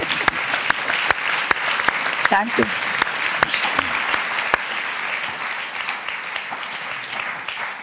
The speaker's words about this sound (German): Applaus bitte für ….